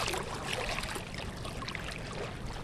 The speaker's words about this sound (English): And that's the thing, is one block away from where we just did the interview, I'm standing at the banks of the Charles River. You can hear the water right by me if I just get the microphone down.